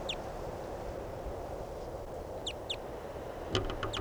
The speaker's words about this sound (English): Recording a crossbill that sounded different, just flew over. No sign of it. There's a crossbow here that sounds different.